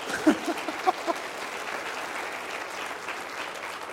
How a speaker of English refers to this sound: Now, okay, for that it's okay to clap in church.